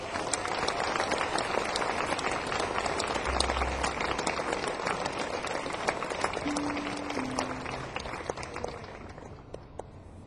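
Sustained, dense applause from a large audience in Gothenburg welcoming a performer fills the whole stretch, steady and loud before easing slightly toward the end, with a few brief low tones sounding underneath.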